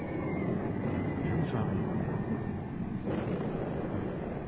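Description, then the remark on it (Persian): A low, steady roar of an airplane passing overhead fills the whole moment, broad rumbling with a slight swell and fade, loud and close, with no one speaking. “صدای چی بود حمید؟ جوانم هواپیما بود.”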